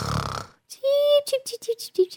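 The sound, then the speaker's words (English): A voice fakes snoring: a rough, breathy snort, then a steady whistling tone and a run of short, choppy pitched bursts, fairly loud, with no talking. “Why are you snoring?”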